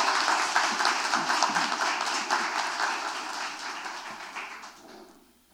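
An audience at an honoring ceremony of the Ouro Preto City Council applauds a retired volunteer, a dense wash of many hands clapping at a fairly even level before tapering off and fading out in the last half second.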